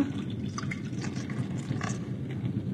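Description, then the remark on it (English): Warm blood pours steadily into a battle helmet, a continuous gurgle with small splashes and drips scattered through it, heard alone without any voices. “in the name of the Prince of the Air and of the Little Spirit, come to this your battle helmet as we pour the warm blood of your servant.”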